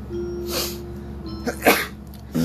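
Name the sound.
sneeze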